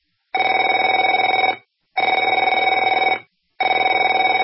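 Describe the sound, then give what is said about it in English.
A telephone rings in three long bursts separated by short pauses, each ring a loud, steady electronic trill with a buzzing, warbling tone and no voices. “Afraid to answer it?”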